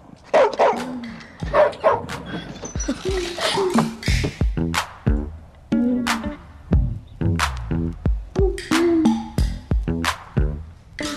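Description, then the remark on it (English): A dog named Ferocious barks repeatedly in rapid, sharp bursts, loud and insistent, with some yips and whimpering sounds mixed between the barks. “You know why he got that name if you hear him bark.”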